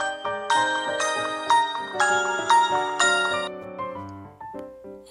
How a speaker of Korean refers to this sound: 그런데 그때 여자친구 매기에게서 전화가 왔다.